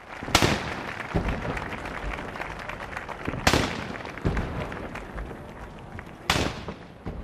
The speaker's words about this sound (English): It is the scene that has been repeated every 4 years since 1789. Patriotic music was played. Cannons were fired.